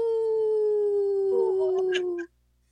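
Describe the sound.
A person imitates a wolf howl: one long, steady, sustained tone that slides slightly downward for about two seconds, then cuts off abruptly. Loud, with no talking.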